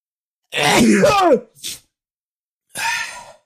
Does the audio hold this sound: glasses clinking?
no